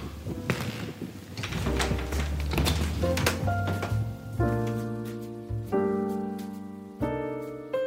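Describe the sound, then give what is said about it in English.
A deadbolt turns with a run of sharp metallic clicks and rattles, then a door is pushed open with a dull thunk, after which steady, sustained musical tones take over. “The sound of the deadbolt opening and then that sound of pushing the door open, those are sounds I've always known.”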